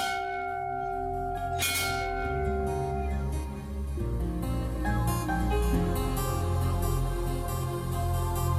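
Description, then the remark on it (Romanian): A large bell rings loudly, with a sharp strike near the start and another a couple of seconds later, each leaving long, layered metallic tones that hum on. No voices. “Atenție la clopot!”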